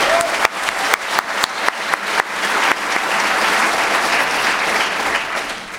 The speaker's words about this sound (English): I'd like us all to give a round of applause